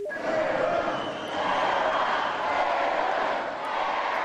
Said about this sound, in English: As you can hear, the crowd very happy to see her. 2,000 people cheered very loudly.